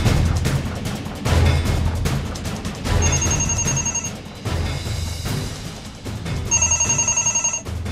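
A telephone bell rings in a radio control room in two loud bursts, the first around a second long and the second a bit longer, over a dense, rumbling background that makes the ringing sound slightly busy.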